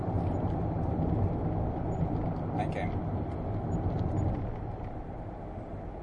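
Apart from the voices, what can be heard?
road traffic passing by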